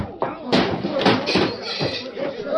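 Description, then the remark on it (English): Punches to the stomach and the chin land in a fistfight: several sharp thuds in a rough, irregular sequence, mixed with grunting voices and scuffling. “One for the stomach. One for the chin.”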